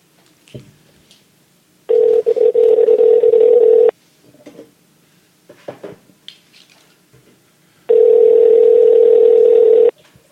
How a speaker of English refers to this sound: How awkward would that be if you didn't answer? Can everybody hear the phone ringing?